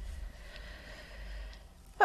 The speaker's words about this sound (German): Ich muss niesen